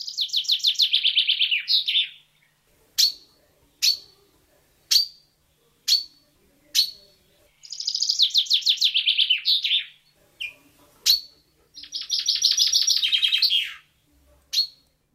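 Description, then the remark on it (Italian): A chaffinch sings its rattling song in three bright descending phrases, separated by sharp single call notes, clear with no talking. “Mi presento, sono un fringuello, uno dei tanti, uno di quei piccoli uccelli che cinguettano nei parchi, nei giardini, nei boschi, che da domani torneranno a essere bersaglio legale in Lombardia e in Trentino.”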